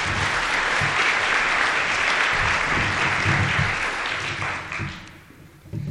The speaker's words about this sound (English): So all of us who aren't with the industries, let's give them a big round of applause.